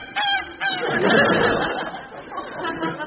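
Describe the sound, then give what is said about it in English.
A goose honks loudly, two sharp honks followed by a flurry of agitated, overlapping squawks and cackles that gradually settle into fainter, scattered honking. “Now get dressed and take this goose with you.”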